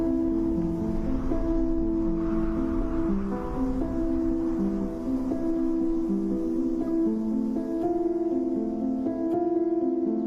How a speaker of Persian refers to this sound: صدای بارون، صدای اون، صدای قدم های آدم ها در رفت آمد، این ضربه زدن به کلیدهای پیانو.